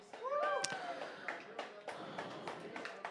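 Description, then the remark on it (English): Mild, scattered applause from an audience: a steady patter of overlapping claps at moderate loudness, with a brief high vocal whoop near the start. “That's a mild applause, of course.”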